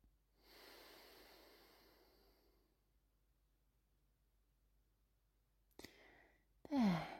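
A long, slow breath is let out audibly for a couple of seconds, then held in silence for several seconds before a quick, sharp sniffing intake and a brief squeaky sound, during a slow, controlled box breathing exercise.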